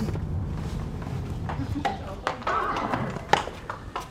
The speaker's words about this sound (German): Die vier Kursteilnehmerinnen führen ihre Pferde, alle groß, braun und sportlich, hintereinander in die Reithalle.